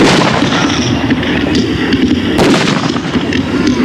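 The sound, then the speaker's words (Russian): Heavy cannon fire from a cannon on a raft booms repeatedly in a dense, rumbling barrage of volleys, with sharp blasts standing out over a constant low roar of smoke and echo, loud. “Вражеская пушка на плоту дает первые залпы.”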